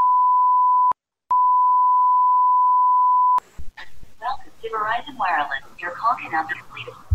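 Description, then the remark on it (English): A steady, loud electronic phone tone on a Verizon Wireless call sounds briefly, breaks off for a moment, then holds for about two seconds before a tinny, phone-filtered recorded voice says the call cannot be completed. “Verizon Wireless. Your call cannot be completed.”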